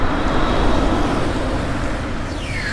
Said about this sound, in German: Achtung, so klingt ein Elektroauto, das mit Strom in einem Akku über die Straße fährt.